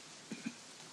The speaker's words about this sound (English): Do you hear that? It's rain. I love rain.